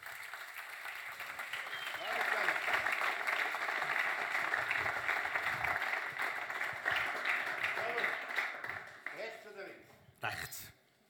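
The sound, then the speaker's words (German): An audience applauds Hausi Lüttenegger as he is welcomed for an interview, a steady, dense wash of many hands clapping that swells after the start, holds loud for several seconds, then thins and fades toward the end. “Grossen Applaus für den Hausi Lüttenegger.”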